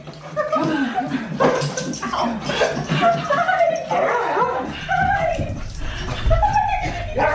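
An excited dog whimpers and yips in quick, high-pitched bursts as its owner, an astronaut back after 328 days aboard the International Space Station, comes home; it stands on its hind legs, wags its tail and paws at the glass front door, with laughter and chatter from people mixed in throughout.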